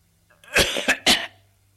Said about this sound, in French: Il tousse. Et en toussant, ça lui fait cracher de l'eau.